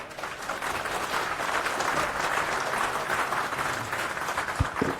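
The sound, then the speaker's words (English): An audience in the GoDev room at a talk applauds steadily, a dense wash of many hands clapping at an even, moderate loudness throughout, without any voices standing out. “So give a round of applause.”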